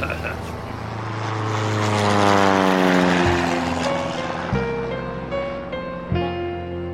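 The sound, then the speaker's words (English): A propeller airplane, Echo Romeo 7-9er out of McMurdo, comes in on final approach to land at Nikita Base: a loud, buzzing engine drone swells, then its pitch drops in a few distinct steps as the throttle eases back. “Coming in on final approach.”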